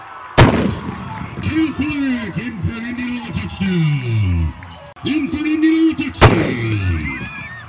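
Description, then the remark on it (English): Two loud, sharp cannon blasts boom about six seconds apart, with a large crowd cheering and shouting between and after them, at an outdoor Indianola High School football game. “So the tradition had to be given up, and the cannon went home.”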